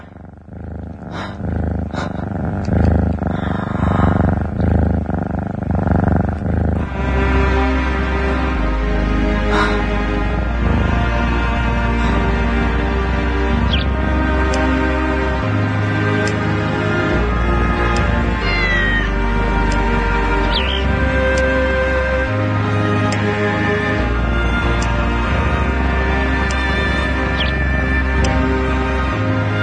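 A song made of cat meows sung over a full musical backing with steady bass and beat, the meowing voices carrying the melody loudly from start to finish.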